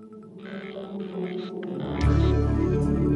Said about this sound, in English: Whales. Now is this sperm or blue tip?